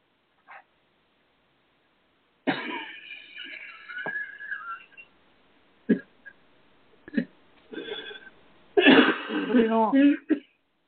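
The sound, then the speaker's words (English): A person in the audience of a lecture clears their throat and coughs in several harsh, irregular bursts separated by short quiet gaps, ending in a longer, rougher fit of hacking. “Please, if you're going to cough, can you silence yourself?”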